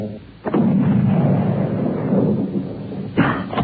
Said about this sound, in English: Then the thing looked up, and Tom fired.